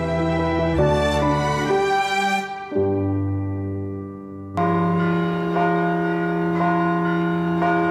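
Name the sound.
church bells ringing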